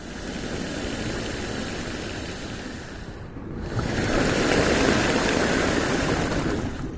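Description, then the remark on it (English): Atlantic waves or tides push air through coastal rock caves and holes with a deep, breathy rush: a steady roar dips briefly, then swells into a louder surge of whooshing air and surf, with no voices. “And what sounds like someone's breathing is in fact the air pressure of waves or tides entering the caves.”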